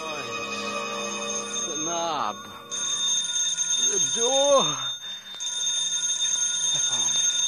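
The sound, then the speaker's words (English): A telephone rings continuously in high, bright bursts, with a short break in the middle, while a man speaks over it. “The phone.”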